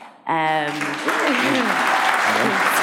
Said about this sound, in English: A lot of claps tonight.